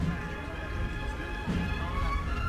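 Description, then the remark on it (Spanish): A single hammer (martillo) strike rings out, followed by a heavy thud as the procession float (paso) of the Señor de la Sentencia is lowered inside the Basílica de la Macarena in Seville, all over a steady murmur of crowd noise and voices. “Martillo que suena, el paso se arría dentro del templo.”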